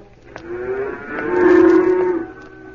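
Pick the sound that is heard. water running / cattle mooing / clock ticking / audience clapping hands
cattle mooing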